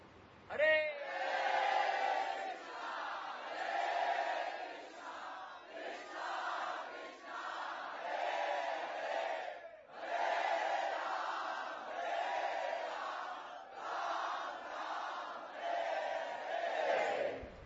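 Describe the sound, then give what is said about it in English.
A large crowd shouts and chants together at full volume, trying to be heard as far as Juhu, a dense, sustained roar of many voices rising in bursts and continuing for several seconds with brief dips between phrases. “Let's try really, really loud so they can hear in Juhu.”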